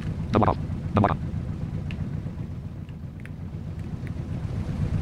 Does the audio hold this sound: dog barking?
no